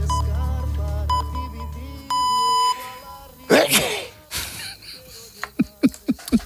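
Electronic radio time-signal pips, ending in a longer steady beep, are followed by a loud sneeze and a series of short sniffs and breathy snorts.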